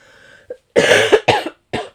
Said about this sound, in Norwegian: Nå blir det litt hosting, men jeg er ikke syk.